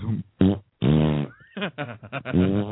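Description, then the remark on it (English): Several loud, blaring fart sound effects in quick succession, with one long, drawn-out rumble in the middle and shorter sputtering bursts after it, with no talking. “Herzo and Lenny get into the front of an elevator and took a big, big fart, like a team fart.”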